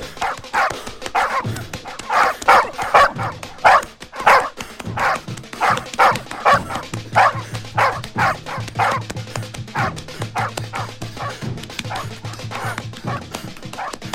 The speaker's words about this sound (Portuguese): Pedro Bala deixa para trás suas roupas, evitando ser perseguido pelos cachorros que guardavam o reformatório.